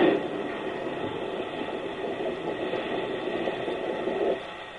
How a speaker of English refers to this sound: That does it. Now to stop the train.